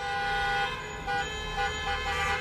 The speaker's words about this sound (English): While the governor spoke, the sound of car horns could be heard outside as protesters, tired of the school and business closures, held a demonstration, saying they're being hurt economically.